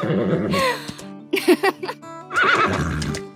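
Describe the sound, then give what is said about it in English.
A horse whinnies loudly, a long quavering neigh with a couple of short snorting breaths in the middle, then another rising whinny at the end. “We got a whole new horse library because in that show, there's three characters who are horses, so there are no actors voicing them.”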